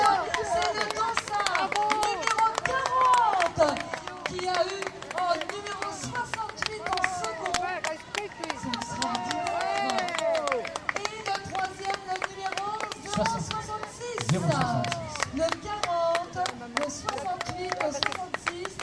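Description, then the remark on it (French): Spectators applaud a child runner finishing the youth race after 800 metres, dense rapid clapping mixed with shouting and cheering voices, fairly loud throughout with a brief swell near the end. “On peut l'applaudir.”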